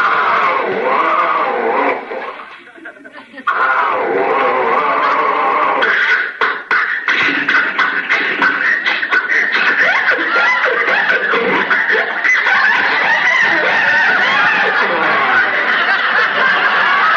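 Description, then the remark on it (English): A voice imitates an old car engine sputtering and coughing as it fails to start, a long, loud, rough stream of choppy bursts with a brief pause near the beginning. “Something's wrong with the motor.”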